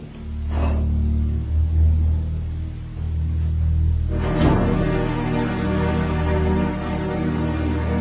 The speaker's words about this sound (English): Shh, shh, here comes another car. It's them. Get ready.